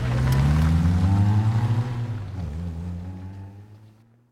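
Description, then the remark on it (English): A heavy flatbed truck engine revs loudly with a deep, throbbing drone while backing up, its pitch shifting up and down before it gradually fades away. “load it onto the flatbed truck of removal. All right, back her up!”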